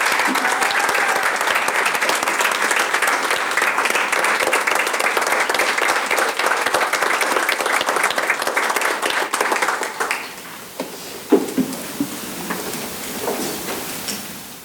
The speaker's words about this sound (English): And if we could all give them a round of applause, I'd appreciate it.